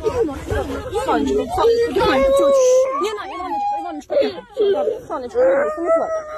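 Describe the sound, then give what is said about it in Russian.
Someone cries in wavering, drawn-out wails that rise and fall, fairly loud, with other people talking and murmuring around them. “Не плачь, будь ласка. Все буде добре.”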